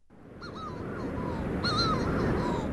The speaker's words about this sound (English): This is an extraordinary bird. The Manx shearwater, Puffinus puffinus, according to the local wisdom, only really call on misty and moonless nights.